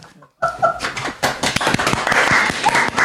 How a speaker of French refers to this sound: C'est la première fois que je suis applaudi pour une chronique.